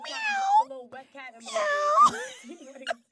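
A cat meows twice, loud and close, each a long, drawn-out cry with a falling pitch. Short chirpy sounds come in between and after.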